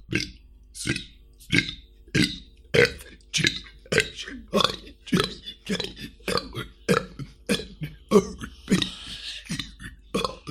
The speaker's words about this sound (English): Do you want to hear the alphabet burp? Yes. Really? Absolutely, I want the alphabet in burps.